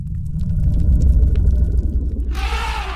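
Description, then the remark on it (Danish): A deep, sustained low-pitched infrasonic elephant rumble drones loudly for a few seconds, with a faint thin tone above it and a burst of hissy noise coming in near the end. “Ved at brumme kan de for eksempel sige, at de har fundet vand eller der er fare på færde.”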